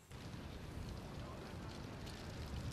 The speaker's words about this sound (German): Es ist still, ungewöhnlich still an der vierspurigen Independence Avenue. Man kann sogar hören, wie der Wind die Blätter über die Straße treibt.